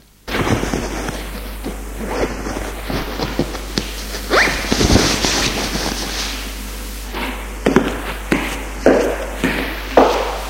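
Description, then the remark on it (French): A suitcase zipper is drawn closed at home in a series of raspy pulls, with brief scraping bursts and a few sharp knocks and thumps as the case is handled, and no one speaks. “Il ferme sa valise et va ouvrir.”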